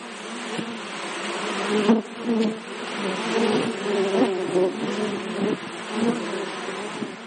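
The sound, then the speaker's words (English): Dense, steady humming of many honeybees massed together in a hive, a continuous drone with overlapping buzzes swelling and fading slightly, no voices present. “think kindly about these creatures, not as nasty insects with stingers, but as these beautiful, cute, fuzzy little things that make the honey that we all like so much.”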